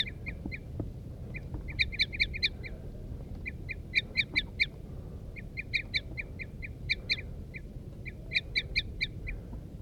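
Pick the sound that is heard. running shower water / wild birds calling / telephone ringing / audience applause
wild birds calling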